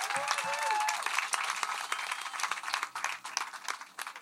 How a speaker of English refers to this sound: Please give him a huge round of applause.